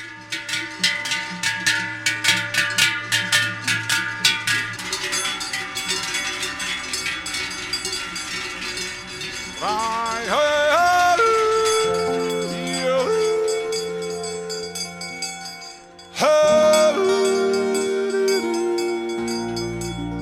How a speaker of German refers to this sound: Wenn die hellen Speisglocken und die dunklen Duschglocken zusammenklingen, dann entsteht ein vielstimmiges Geläut, eine ganze Klangsymphonie aus Glocken. Den Rhythmus dieser Symphonie machen die Schritte der Tiere.